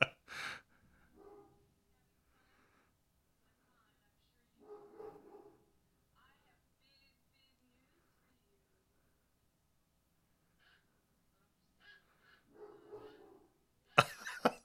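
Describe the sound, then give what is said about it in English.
A dog barks in short, scattered bursts while a dog in a film also barks: a couple of sharp yaps at the start, another cluster midway, and more near the end, separated by long quiet gaps. “dog is barking as the dog on the film is barking.”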